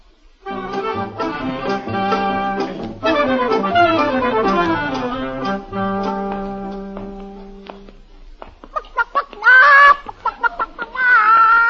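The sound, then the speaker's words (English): A short burst of orchestral music gives way to a live chicken clucking and squawking in loud, agitated bursts near the end as it is carried hanging upside down by its feet, with no voices. “Tugwell, we're going to buy a live chicken.”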